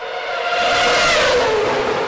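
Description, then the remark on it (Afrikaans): An alarm tone called Grand Prix: a race car engine revs loudly and continuously for about two seconds, a high whining roar with pitch that dips slightly then climbs, heard alone with no voices. “Die mees populaire alarm onder mannelike vlees is Grand Prix.”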